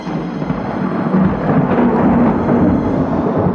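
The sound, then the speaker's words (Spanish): A deep, sustained rumble of thunder from an approaching storm on a hot, stifling night rolls on without a break, heavy in the low end with a broad hiss over it, staying loud and steady throughout, with no voices. “ahogada por el calor sofocante de esta noche que presagia tormenta.”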